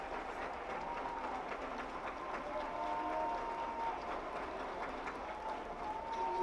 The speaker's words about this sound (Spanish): Todos aplaudan.